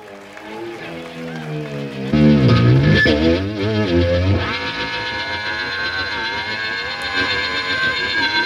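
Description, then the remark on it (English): Vehicles whir over road charging plates, an electric hum with wavering, sweeping pitch that surges loudly after a couple of seconds, then settles into a steady, buzzing drone with low rumble. “Sounded a bit like charging plates and cars going over them at the start, didn't it?”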